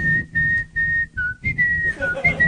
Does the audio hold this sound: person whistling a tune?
yes